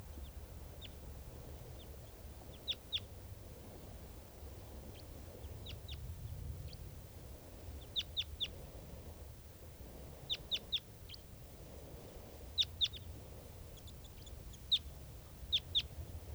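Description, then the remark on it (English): A wild bird calls repeatedly with short, sharp, high-pitched notes in quick bursts of two to four, spaced a second or two apart, over a steady low rumble. “This is one of the birds that's calling here.”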